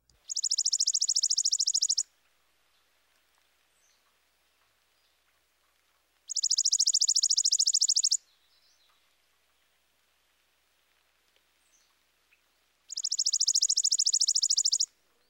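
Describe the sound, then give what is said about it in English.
Three separate dry, rapid trills from a chipping sparrow, each lasting about two seconds with a few seconds of quiet between, clear with no voices. “Next, the dry trill of the chipping sparrow.”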